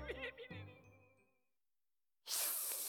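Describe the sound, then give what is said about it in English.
A voice makes a loud, sharp snake-like hiss, breathy and sustained, after a short pause that follows some chuckling vocal sounds. “You're a snake now.”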